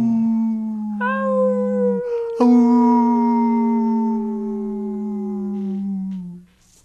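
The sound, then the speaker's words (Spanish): A wolf howls twice: a short, steady cry, then after a brief pause a long, loud howl that slowly sinks in pitch before fading out. No one speaks. “¿Sabes aullar como lobo”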